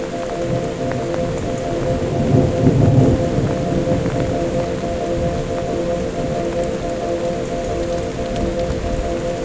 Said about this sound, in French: Je le traque. Je l'écoute. C'est la naissance d'un léger orage.